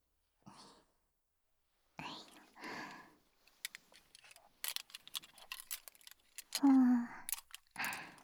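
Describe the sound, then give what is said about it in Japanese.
Quick, crisp snips of serrated thinning scissors tidying hair, a loose cluster of sharp metallic clicks, with soft whispering speech before and after. “あとはすきばさみと前髪の方も整えていくね。”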